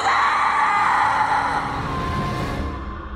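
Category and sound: sound effect, loud piercing scream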